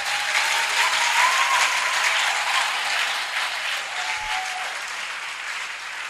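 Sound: audience applauding and cheering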